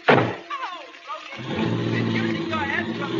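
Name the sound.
car door shutting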